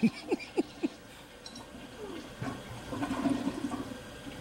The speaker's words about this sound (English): You'll hear the toilet flush, and then the hilarity will ensue.